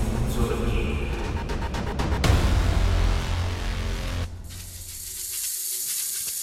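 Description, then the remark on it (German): A giant snake, Cobra Khan the snake lord, spits corrosive venom in a loud, sustained spraying hiss, with a rumbling, sizzling layer for the first four seconds, then a thinner, steady high hiss to the end. “Achtung, Jeff, er sprüht.”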